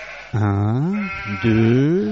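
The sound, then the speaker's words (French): Ewes from a flock of 100 bleat in two long, wavering calls, one after another, loud and alone with no voices, each a quavering nasal baa with rich harmonics, as a shepherd opens their pen at daybreak and lets them out. “C'est un troupeau important. Chaque matin, au lever du jour, il se rend à l'enclos, il ouvre la porte et laisse sortir ses bêtes.”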